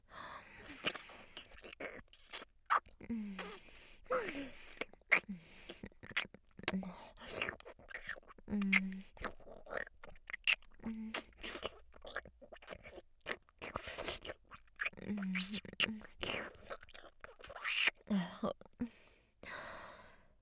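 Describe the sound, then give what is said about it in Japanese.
Soft whispered breathing mingles with wet, clicking saliva and mouth sounds, a quiet, irregular stream of little smacks and breathy puffs with no clear words. “私の息遣い、唾液の音、いっぱい感じてください。”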